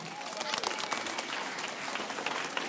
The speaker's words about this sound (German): Also, ich wünsche euch ganz, ganz viel Spaß und jetzt bitte einen donnernden Applaus